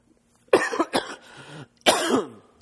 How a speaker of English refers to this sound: I'll try to read, and I'll try not to cough any more than I have to.